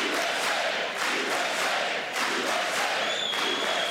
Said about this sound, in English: So, you know, I don't know why they're booing exactly.